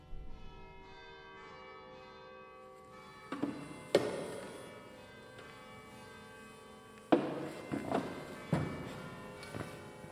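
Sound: church bells ringing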